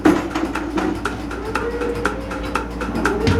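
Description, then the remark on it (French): A milking machine pulsator milking a cow, its membranes massaging the teats, beats out a steady, rhythmic pulse, with sharp hissing clicks roughly four times a second over a continuous low mechanical hum and a soft whine. “Ce qu'on entend, c'est la pulsation. C'est ce qui permet, par un jeu de membrane, de masser le treillon.”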